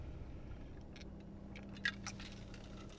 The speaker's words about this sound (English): And I don't think, sorry, I'm trying to sip my coffee, but I had it closed again.